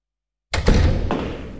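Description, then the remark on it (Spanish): After a moment of silence, a door swings shut with a solid thud, followed by a couple of lighter clicks and knocks as it settles. No one speaks. “¿ha cerrado bien la puerta? Dale toda su vuelta, hombre.”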